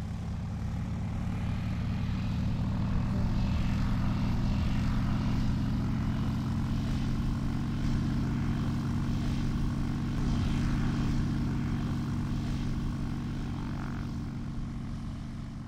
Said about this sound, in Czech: Vlečné letadlo s větroněm ujížděli velkou rychlostí a už byli v půlce dráhy. Větroň se vznesl a letěl těsně nad zemí. Zakrátko se odlepil i vlečný letoun a obě letadla nastoupala do výšky.